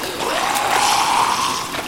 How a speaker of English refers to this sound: Oh no, the stream is picking up!